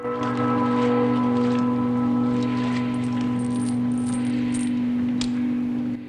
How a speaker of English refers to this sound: The two guards take the prisoner down a flight of stairs and chain him to a stake. Water laps at the man's feet, soaking his stockings.